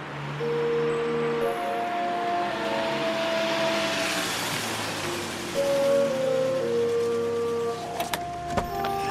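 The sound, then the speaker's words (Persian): A car's engine rumbles and swells to a rising roar as the car is pushed to get it started, with a few sharp knocks near the end, all beneath sustained musical tones. No one speaks. “بود ماشین رو هل بده. من هل بدم.”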